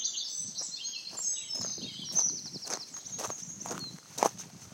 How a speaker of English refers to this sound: They don't call this the green and pleasant land for nothing, as large swaths of bushy wetlands creep right up to the roadside and are filled with a plethora of birds I'd never heard before.